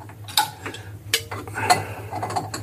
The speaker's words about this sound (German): Ich steck die Scheibe auf den Konus, halte sie mit der linken Hand fest und drehe mit der rechten Hand die Sicherungsmutter wieder drauf. Und dann ziehe ich das wieder fest mit dem Schlüssel.